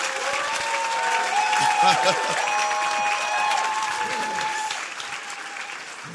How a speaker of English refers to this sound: Your clapping is very...